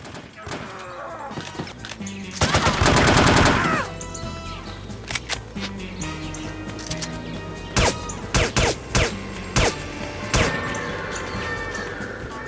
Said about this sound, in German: Also das klingt, na, wie ein Shooter so klingt, mit viel Schießen und mit schreienden Gegnern und so weiter. Und gegen Ende hat man auch gehört, da wurde ein Alarm ausgelöst.